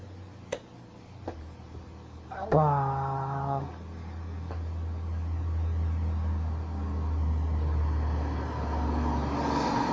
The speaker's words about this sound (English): Oh, truck.